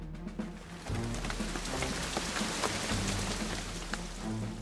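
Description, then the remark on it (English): Steady rain falls on a hard surface, a dense continuous patter with scattered louder drops popping through, over a low, constant rumble and no voices. “Look, the sky is gray. It starts to rain.”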